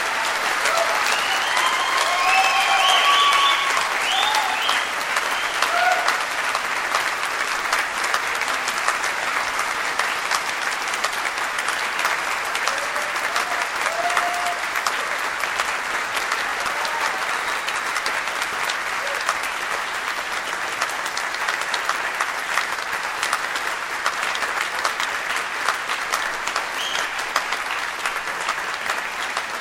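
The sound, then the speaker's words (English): A large crowd at a graduation ceremony applauds the graduates steadily for about half a minute, a dense, even roar of clapping with a few brief cheers or whoops early on, no speech over it. “I invite you all now to offer your hearty applause for these graduates.”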